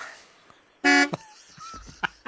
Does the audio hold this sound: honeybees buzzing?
no